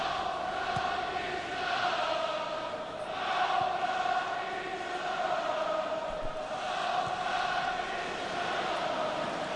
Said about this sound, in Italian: Sentiamo un po' il pubblico portoghese.